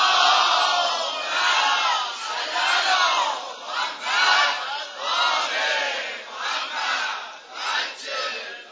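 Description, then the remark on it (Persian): A large crowd chants salawat together in loud, rhythmic unison, the collective voices rising and falling in repeated surges with no pause throughout. “صلوات فرست بلند و لال نمیران ان شاء الله.”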